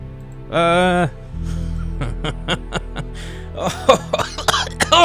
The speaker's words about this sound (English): I'll just cough for like 2 minutes and then I'll play another song.